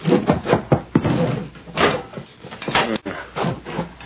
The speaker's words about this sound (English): Wait till I get this door unlocked. All right, inside, both of you.